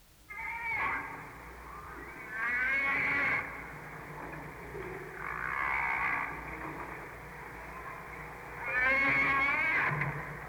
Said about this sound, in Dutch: Weet u welke walvis u nu hoort? Zou dat bultruggen kunnen zijn? Het is een vinvis. Wat zegt u? Het is een vinvis. Ja, een gewone vinvis? Een gewone vinvis.